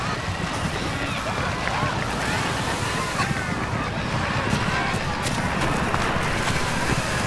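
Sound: sea waves crashing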